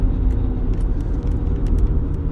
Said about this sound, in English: I was distracted by what was supposed to be a crotch rocket revving, but instead it's just a guy in a beat up. Is that a Mazda Miata?